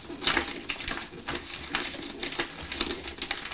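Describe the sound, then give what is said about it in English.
Steady crinkling and crackling of wrapping paper being creased and folded, with irregular sharp rustles over a few seconds and no voices. “Should this paper crease?”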